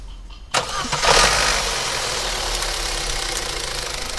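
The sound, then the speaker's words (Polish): The worn engine of a municipal police patrol car, rebuilt at least twice and leaking oil, cranks and catches with a sudden burst, revs briefly, then settles into a steady, rough idle, with no one talking. “No, teraz poszło. No to odpalamy.”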